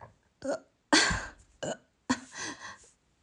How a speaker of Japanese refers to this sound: さっき言っちゃったんだけど、ちょっとゲップ出る。